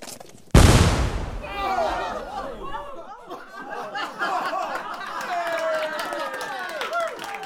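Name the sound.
cannon firing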